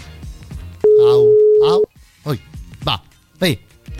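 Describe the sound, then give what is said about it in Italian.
A single loud, steady ringback tone sounds for about a second as a call rings out unanswered, with people talking softly before it and in short bursts afterward. “Aurelio rispondi al telefono.”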